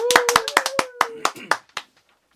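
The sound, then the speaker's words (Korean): A brief round of audience clapping after a live song performance: roughly a dozen sharp, uneven claps that thin out and stop after about two seconds, over a faint steady tone that fades early on. “우리 박수 한번 칠까요?”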